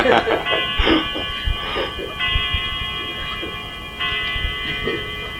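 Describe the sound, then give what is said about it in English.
A clock strikes ten o'clock with several resonant chimes, each ringing tone lingering and overlapping the next, steady, while faint voices murmur underneath. “Well, at least everyone listening to the tape will know it's 10 o'clock.”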